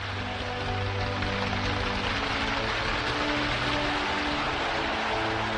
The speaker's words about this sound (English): And when they finished, they started clapping again.